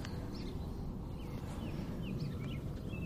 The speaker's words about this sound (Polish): Ptaszki sobie śpiewają.